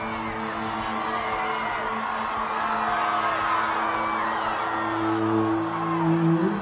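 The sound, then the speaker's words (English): A vast crowd at a school strike for climate rally cheers and whoops as a young woman steps out on stage holding a sign, many voices overlapping in a dense, loud roar with rising and falling shouts, swelling slightly toward the end. “She steps out in front of the vast crowd, holding her original school strike for climate sign.”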